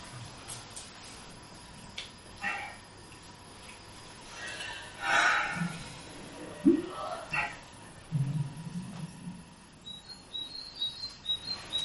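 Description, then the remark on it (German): Faint, high bird chirps and twitters, scattered and brief, growing more frequent toward the end over a quiet outdoor background with occasional soft rustles. “Hör die Vögel singen.”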